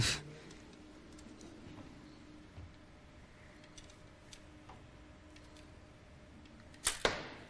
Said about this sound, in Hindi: नहीं, रंग चेंज हुआ है इस उम्मीद के साथ कि ये 5 तीरों से निशाना ले पाएंगे वक्त के अंदर। बहुत जबरदस्त, टाइम बहुत कम बचा है इनके पास, वक्त खत्म हुआ, तीर की तादाद खत्म हुई।